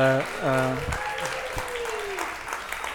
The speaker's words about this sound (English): They're incredible people. Probably deserve a bigger round of applause than that.